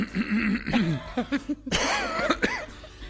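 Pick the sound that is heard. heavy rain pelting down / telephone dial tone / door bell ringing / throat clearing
throat clearing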